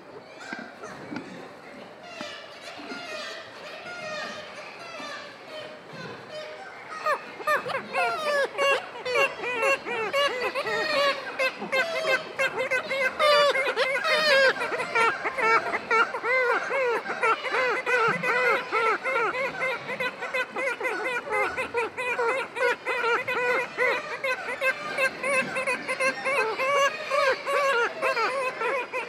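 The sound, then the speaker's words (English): A dense chorus of kittiwakes calling from a cliff colony high above a gully on an island, many overlapping shrill, nasal cries that swell louder after the opening seconds and continue without pause. “High on the cliffs and high above a gully, kittiwakes make their presence known as gulls patrol the island perimeter.”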